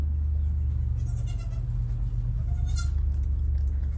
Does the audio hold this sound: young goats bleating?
yes